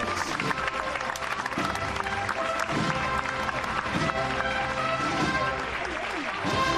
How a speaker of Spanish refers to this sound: Y una nueva ovación para esta primera marcha, que no quieren dejar de tocar, y su banda sigue para seguir repartiendo esta bendición por la calle Adriano, que desde luego está siendo impresionante, compañeros, aquí, ¿eh?